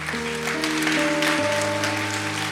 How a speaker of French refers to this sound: Je te propose d'applaudir Jésus.